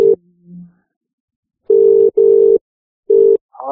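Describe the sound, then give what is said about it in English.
A telephone line tone on an outgoing call to a UK number: a steady, mid-pitched electronic tone sounding in short bursts, two close together and then a third after a pause, clear with no talking. “I'm going to put Baz on the line.”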